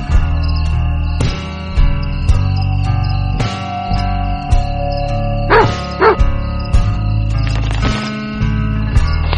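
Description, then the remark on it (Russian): A small dog gives two quick, yappy barks close together near the middle, heard over a steady, gently pulsing musical background with no one talking. “Спокойной ночи, дорогая собачка.”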